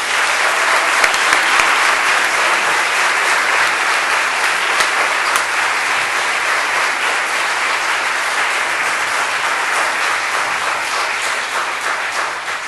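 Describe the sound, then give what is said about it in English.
A crowd applauds graduating high school students steadily for over twelve seconds, a dense wash of many hands clapping at an even, loud level with scattered sharper claps, tapering slightly toward the end. “So we have quite a graduating crew, so let's give these young people a round of applause.”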